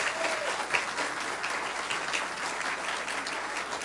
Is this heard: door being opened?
no